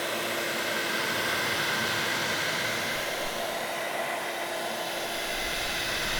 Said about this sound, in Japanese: ドライヤーの音嫌いじゃないみたいだね。よかった。意外にこの音なんか心地よかったりするよね。